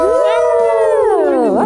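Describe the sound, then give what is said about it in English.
A person howls like a dog, one long, loud, wavering note that holds steady, then slides down in pitch and kicks up sharply at the very end. “Hashtag howl noise.”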